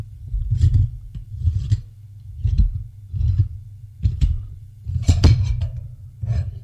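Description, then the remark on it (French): A metal safe standing against the wall in a laboratory is opened with a code: a series of about seven rhythmic rasping scrapes, low and gritty, with a brighter metallic clink near the end. No voices. “Le coffre s'est ouvert.”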